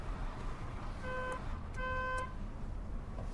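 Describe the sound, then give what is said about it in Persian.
Two short car horn blasts, the second slightly longer, with a steady buzzy tone over a constant low engine rumble, as the car's horn is pointed out and sounded while its controls are being shown. “این بوغشه؟ بوغ اینه.”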